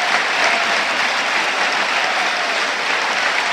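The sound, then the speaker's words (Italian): The crowd at the Tardini stadium applauding Matteo Pellegrino for his two goals in a football match against Torino, a near-total standing ovation: a dense, unbroken wash of clapping that stays loud and even for the whole stretch, with no talking over it. “Intanto vi faccio sentire gli applausi del pubblico del Tardini per Matteo Pellegrino, la sua doppietta per il momento decide il match.”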